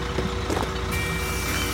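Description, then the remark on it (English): A bus engine idles with a steady low rumble in Crackington Haven, North Cornwall, while a high, thin electronic tone like a reversing alert sounds over it. No one speaks. “I've just got off the bus in Crackington Haven and it is beautiful.”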